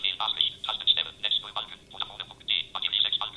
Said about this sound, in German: mit dem sprechenden Laptop, dem sprechenden Handy, weil die Silben ja in einer ungeheuren Geschwindigkeit vorgetragen